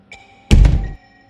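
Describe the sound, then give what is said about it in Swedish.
A front door is slammed shut with brutal force and then locked again: a faint click, then one heavy, booming thud with a deep low rumble that fades quickly. No voices. “Stängas av en brutal kraft och sedan låsas igen.”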